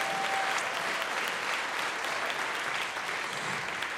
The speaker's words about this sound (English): Would you give God a hand clap of praise for him?